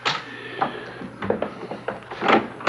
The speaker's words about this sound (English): Just a minute. Someone seems to be knocking on the door. I haven't the faintest notion who it might be, but I shall find out.